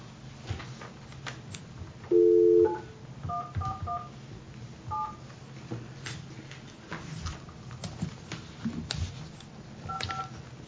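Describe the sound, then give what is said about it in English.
A phone number being dialed: a longer tone, then short touch-tone beeps pressed in uneven bursts with pauses between them, over faint room noise and no talking. “I got a phone number here I can call.”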